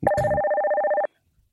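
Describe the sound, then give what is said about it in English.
A single telephone ring from an incoming call on a call-in phone line lasts about a second, a bright warbling electronic trill that is clear, followed by silence. No one speaks. “We have the phone lines open. Feel free to call in.”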